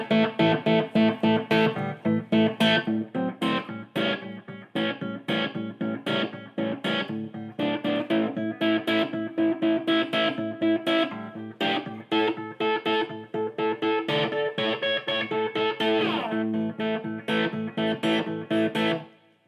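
A distorted electric guitar, built by the player, plays a steady stream of rhythmic chords and riffs, loud, with thick sustained overdrive filling the whole passage and no voices.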